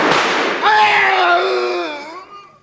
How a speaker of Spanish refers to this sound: En el mismo instante disparé las dos pistolas.